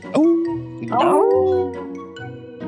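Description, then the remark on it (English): Several people let out a loud group howl, imitating dogs with drawn-out, rising and wavering 'awoo' calls that overlap for a couple of seconds. “So until next time, let's give our fans a good awoo.”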